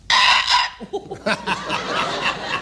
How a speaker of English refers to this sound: All right, Jimmy, then for you as a fellow countryman, a bird you must have heard many times when you leapt a fence, the pheasant.